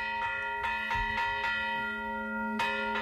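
Church bells ringing a Festa Major (main festival) peal, several bells struck in quick irregular succession over a sustained, shimmering hum of overlapping tones, loud and clear with no voices.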